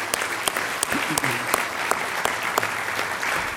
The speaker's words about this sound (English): Give them a round of applause, if you would, please.